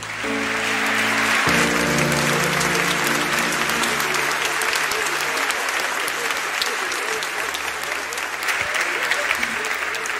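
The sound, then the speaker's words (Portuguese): An audience claps steadily and loudly for about ten seconds, a dense wash of hand claps, with sustained organ-like tones underneath during the first few seconds. “Você pode aplaudir?”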